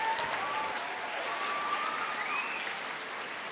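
Steady, sustained applause from an audience, a dense wash of many hands clapping at an even loudness for a few seconds, with a faint whistle rising above it.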